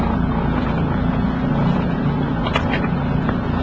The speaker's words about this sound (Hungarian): És most motorozok, ennek az az oka, hogy nincsen szél, meg az az oka, hogy nagyon lent merült az akkumulátor szerintem.